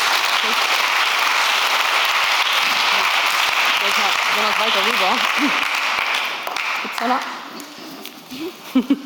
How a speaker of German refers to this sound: Wir sind gespannt, hab viel Freude dabei und gib dir nochmal einen kräftigen Applaus.